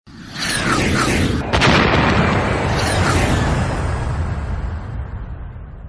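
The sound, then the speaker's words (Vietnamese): Heavy artillery explosions boom one after another as an airfield is shelled at night, a dense, rumbling barrage with sharp blasts and a continuous roar of debris and reverberation, loud throughout. “có tiếng nổ chát chúa liên tục vang lên muốn lông màng ốc.”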